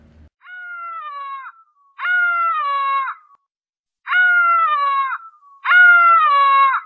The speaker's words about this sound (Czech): Čím víc se blížila, tím bylo houkání strašlivější, až při něm začala tuhnout krev v žilách. V tom hlase však bylo něco zoufalého, jakési volání pro pomoc.